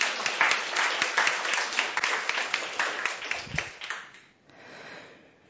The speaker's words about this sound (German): Ich bitte um einen Applaus, dass Sie sich wohlfühlen.